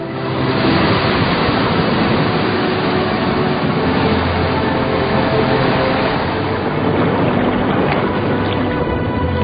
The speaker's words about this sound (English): When waves hit the reef close to the surface, they smash its rocky skeleton. Grinding it down into sand.